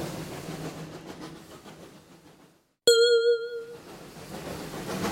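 A train driven by Goofy rumbles steadily along the rails with a faint rhythmic clatter, falls briefly silent, then a bright ringing chime sounds before the rolling noise picks up again. No one speaks.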